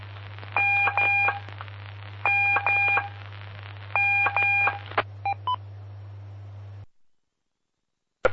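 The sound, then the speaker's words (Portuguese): Morse code telegraphy tones from a telegraphy lesson sent from the city of Rodeio sound in repeated clusters of bright, buzzy beeps over a steady low electrical hum, then a few short isolated beeps before the hum cuts off into silence. “aqui pela cidade de Rodeio, aí com as aulas de telegrafia.”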